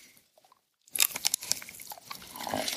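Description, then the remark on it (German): A sharp bite into a piece of chocolate right at the microphone, followed by a run of crisp, crackly crunching and chewing that continues for a couple of seconds. No one speaks. “Und das ist ungefähr das, was ich jetzt hier mache, wenn ich ganz nah am Mikro gehe und in dieses Stück Schokolade beiße.”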